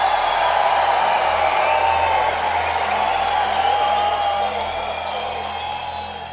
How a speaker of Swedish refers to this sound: Publiken blir helt till sig.